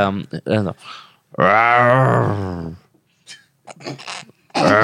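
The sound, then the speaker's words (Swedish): A person imitates a bear growl in an animal-sound guessing game: a few short voiced grunts, then one long, loud, low rumbling growl lasting over a second, followed by softer vocal noises and another burst at the end. “En björn. Ja, björn.”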